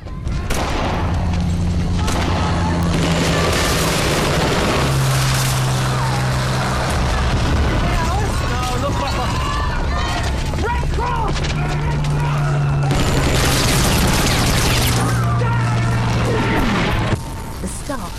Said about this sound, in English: An aeroplane sings over the camp, begins dropping bombs which rip through the ground and buildings. Staff come out of tents in shock, then the plane comes back for another attack.